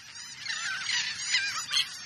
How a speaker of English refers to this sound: We're hearing the calls of royal terns. The birds we call terns look like sporty versions of gulls.